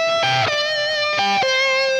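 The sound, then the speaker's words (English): A heavily distorted electric guitar holds a loud, sustained note, with two gritty bursts of fresh notes breaking in before it settles back into the ringing tone. No voices. “Now, if you hear him play it live, he's fully gained out.”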